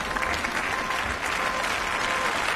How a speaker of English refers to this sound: The applause was loud, but not as loud as it might have been. Last night, Ursula von der Leyen became the first woman to be appointed president of the European Commission, after a secret ballot by members of Europe's Parliament.